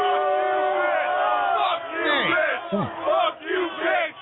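A studio audience of many voices shouts and cheers all at once in a loud, continuous roar, with rising and falling yells and whoops overlapping throughout.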